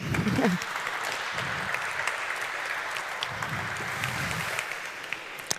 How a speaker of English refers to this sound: And please give our speaker Leo a warm round of applause.